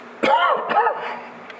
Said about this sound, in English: He's got me coughing.